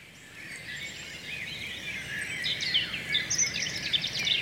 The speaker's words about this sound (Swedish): Där är rödhaken. Rödhaken har gripit tag i första bästa mikrofon och de andra får köra kar, så känns det